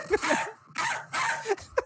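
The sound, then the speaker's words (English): A small dog yaps in a quick series of sharp, high-pitched, fairly loud barks, with short breathy gaps between the bursts. “That's more of a chihuahua.”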